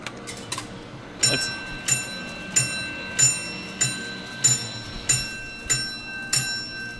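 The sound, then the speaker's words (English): Nine bright, ringing bell chimes from a grip-strength machine at a beach arcade on a rainy day, as a man squeezes its handles together, sound one after another in a steady, evenly spaced rhythm, each with a short metallic ring, loud, with no talking. “Nine bells.”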